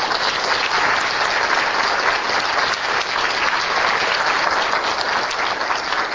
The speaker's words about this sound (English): We have a lot of young students that have come from far away, so give them applause that they came to visit us.